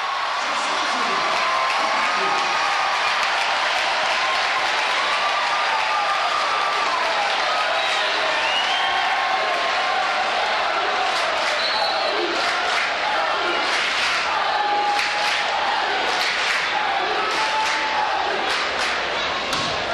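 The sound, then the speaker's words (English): A capacity crowd at Gentile Arena cheers and claps without pause on Saturday night as the Loyola Ramblers win the men's college volleyball national championship: a dense roar of voices with scattered shouts and whistles, plus occasional thumps and a squeaking ball bounce underneath. “Actually, my ears are still ringing from being at Gentile Arena on Saturday night and hearing the capacity crowd cheering the Ramblers on to a national championship.”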